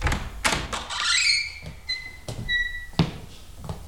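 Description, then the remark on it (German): A door creaks open on squeaky hinges, with a few wooden knocks and clunks around the thin, drawn-out squeals, and no talking. “Hey, hier ist noch eine Tür. Mal sehen.”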